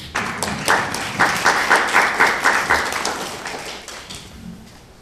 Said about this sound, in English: And I think all of us should congratulate ourselves individually and together for the way we are concerned and the way we are doing things here in the Orchard Ridge area. I'll clap on that.